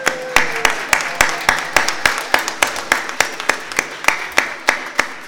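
Audience applause: a steady crowd wash with sharp, loud claps landing in a regular rhythm, roughly three per second, throughout. No one speaks.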